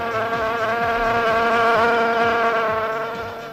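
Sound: fly buzzing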